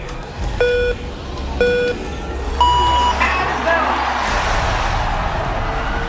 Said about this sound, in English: Coruscant, are you ready to see the greatest rally in the Galactic Core? I said Coruscant, are you ready? Then, pilots, start your engines!